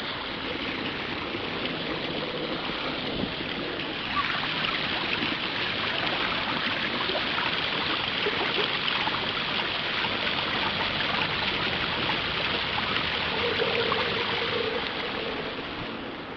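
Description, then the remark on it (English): Steady rushing and gurgling of water flowing from a small fountain that holds a big, heavy marble ball suspended on top by the water, constant, with a soft bubbling texture and no voices throughout. “Got a big marble ball set atop it, basically suspended by the water, so you can spin it around.”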